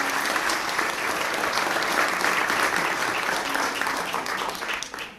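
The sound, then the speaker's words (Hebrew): Audience applause fills the moment, a steady wash of many hands clapping at an even level before tapering off at the end, with no one speaking over it. “כפיים מגיע לו באמת על כל מה שהם עושים.”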